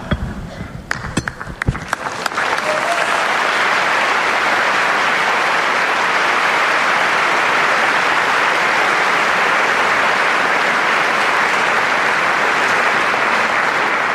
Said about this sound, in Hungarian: Ezzel a nagy tapssal köszönik meg a mai napon is a jelenlévő zarándokok Ferenc pápa áldását. Azt mondhatom, hogy szinte zsúfolásig megvan telve a 6. Pál terem